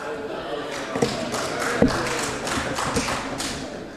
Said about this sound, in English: And even the applause was within the designated time.